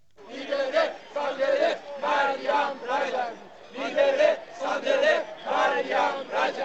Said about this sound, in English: Free Mariam Rajavi, they were shouting at the demo this morning.